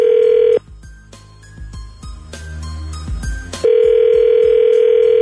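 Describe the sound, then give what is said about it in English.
A loud, steady telephone tone hums for half a second as a phone call is placed, gives way to low muffled clicks and handling noise, then returns continuous and unbroken through the end. “Sit tight, give Shaggy his phone number, and then we'll call him when we come back next.”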